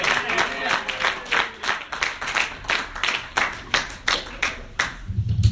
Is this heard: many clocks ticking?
no